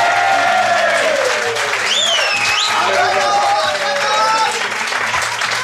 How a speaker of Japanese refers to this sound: 皆さん大きな拍手を。